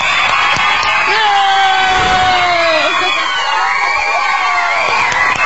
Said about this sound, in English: Screaming girls, calm down.